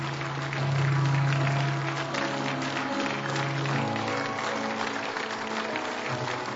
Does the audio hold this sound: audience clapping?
yes